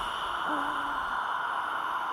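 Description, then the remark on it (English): A long, forceful breath pushed out through the mouth during a breathing exercise, a steady airy hiss with no voice that lasts about two seconds at an even, moderate loudness. “Just the sound of the air. No vocal cords, no music, just the air.”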